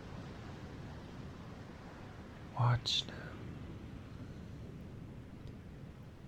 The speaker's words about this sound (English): And I feel you push back against me as we watch the view and listen to the power of the sea. And listen to the white horses.